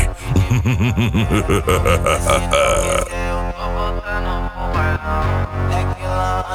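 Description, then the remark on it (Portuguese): Heavy, booming bass pounds out of the sound system of an EcoSport car built for sound competitions (Loja Impact Saltcar, Corbélia, Paraná), with deep wobbling low notes in the first few seconds before a steady, loud beat and music carry on over a sustained low rumble. “O chão vai tremer. Aqui o grave é de verdade.”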